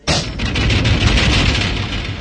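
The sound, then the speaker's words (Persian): A man strikes a glass door with his fist: a heavy, loud blow, then a sustained crackling burst as the whole pane of glass cracks, lasting about two seconds with no voices. “حاجی مشتی به در میکوبه و کل شیشه ترک برمیداره.”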